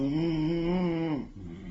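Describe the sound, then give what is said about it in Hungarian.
A single drawn-out snore, voiced by a person imitating it: a steady, droning tone of just over a second that breaks off into a softer, rougher rumble. “Ha mama meg horkol, és ha ő egyszer elalszik, akkor az ágyudörgésem ébresztheti fel.”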